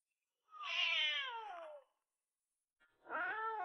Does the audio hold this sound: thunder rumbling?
no